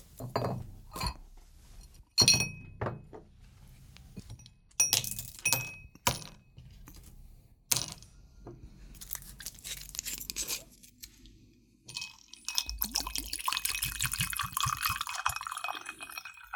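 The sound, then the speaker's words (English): Bright glass clinks and knocks ring out several times, followed by a steady stream of whiskey being poured into a glass, with no talking. “Wait here. I fancy a dram.”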